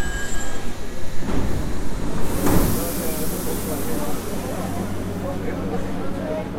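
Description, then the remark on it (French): A Mexico City metro train on the blue Line 2, heading toward Tasqueña, rumbles loudly with a steady low roar, a burst of hissing brakes midway, and faint squealing wheels, heard on its own without talk. “Dans cette capitale de presque 1500 km², pour se déplacer, rien de mieux que le métro.”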